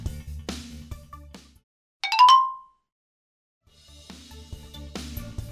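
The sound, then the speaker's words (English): A single bright chime, the signal to turn the page in a read-aloud of the picture book How Can I Help?, rings out clearly after a pause in the music, ringing briefly before fading into silence, with soft background music playing before and after it. “When you hear this sound, it's time to turn the page.”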